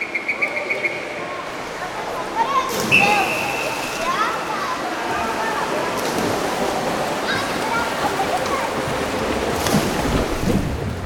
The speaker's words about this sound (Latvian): Akustikā to dēvē par maskēšanas efektu, ko šajā gadījumā izraisa ūdens šļakotu troksnis. Tas atstarojas no visām basēna telpas sienām un neļauj mūsu dzirdes mehānismiem ātri atrast skaņas avotu.